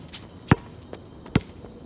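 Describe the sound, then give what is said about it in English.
A football bounces indoors with two heavy, booming thuds about a second apart, with softer, quieter taps in between; no one speaks. “Jim, no football, please.”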